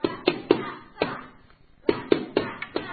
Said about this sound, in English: They knock on a door. But the grumpy innkeeper says, they knock on another door,